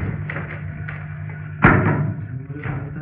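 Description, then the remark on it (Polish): Books drop with a single dull, heavy thud partway through, followed by a brief rustle, over a steady low hum with no talking. “Spadły książki.”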